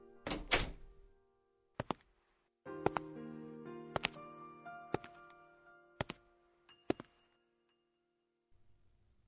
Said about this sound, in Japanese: 一応ドアの外を見てみようとした瞬間、ドアノブが一人でに回り、僕は思わず一歩下がった。